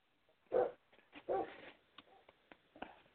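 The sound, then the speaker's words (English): Two loud, sharp barks from dogs reacting to a leaf blowing across the yard, followed by a few softer yips and scattered clicks. The sound is band-limited, like it's coming through a phone line. “My dogs just went off. They saw a leaf blow across the yard.”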